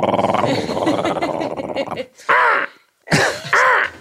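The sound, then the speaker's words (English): A person imitates a crow with a sustained raspy vocal cawing, followed by two short, harsh, nasal caw sounds separated by brief pauses. “That's my crow. Your crow is very good.”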